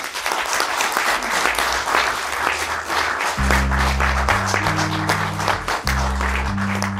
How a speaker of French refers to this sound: Je veux saluer, et vraiment j'aimerais qu'on les applaudisse